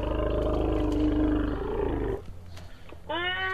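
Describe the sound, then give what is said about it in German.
An excited young elephant strings calls together: a long, loud, rough roar for about two seconds, a brief pause, then a sharp, higher-pitched squealing call, with no other sounds. “Sie hängen die Laute einfach aneinander, wenn sie sehr aufgeregt sind. Das kommt eben speziell bei Jungtieren vor.”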